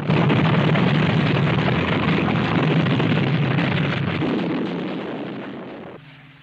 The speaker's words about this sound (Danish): Som vi kan høre her, så bliver en flybase angrebet af tyske bombefly, og så prøver de her britiske fly, som står på landingsbanen, og de forsøger så at komme på vingerne.